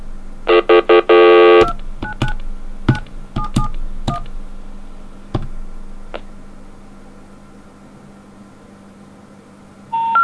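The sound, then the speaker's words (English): A rapid burst of telephone dialing tones plays as a phone number is dialed, followed by scattered clicks and line noise, then a new tone starts at the very end. “Now there's a phone right next to it with a number almost the same. Let's call it.”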